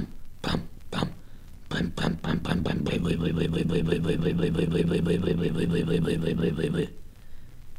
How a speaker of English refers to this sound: I stepped into the cockpit to loosen her up with a few turns. You could hear it were cold, so I advanced the spark and gave it more choke and cranked her up in earnest.